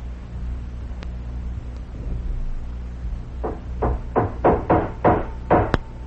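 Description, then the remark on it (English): Iron nails are hammered into an old boat: about seven sharp, loud blows in a quickening rhythm, following a few seconds of steady low rumble and hiss that continues underneath. “Those iron nails rust through very quickly, but they're all I can find.”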